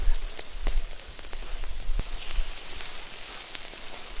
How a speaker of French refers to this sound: Réchauffement de billets, mais non, en fait, c'est le feu.